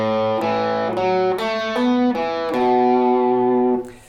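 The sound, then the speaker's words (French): A distorted electric guitar plays a short melodic phrase on the B minor scale, about eight sustained notes in a steady rhythm, loud, with the final held note cutting off near the end. “Ensuite, on continue avec une partie un peu plus mélodique sur la gamme de si mineur.”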